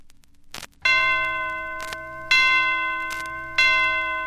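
The original 1960 recording of a Christmas blues song opens with bright bell chimes, struck three times at an unhurried pace, each ringing out and fading, with soft percussive taps between them and no voices yet.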